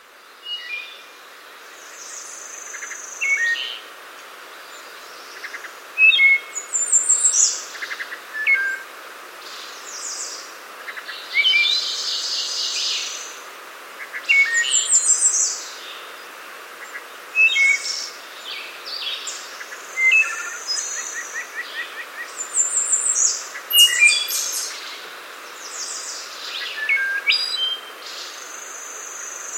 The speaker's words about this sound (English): Here is one of Jonathan Franzen's favorite bird calls, the wood thrush, recorded in 2013 in Virginia by Daryl Peterson.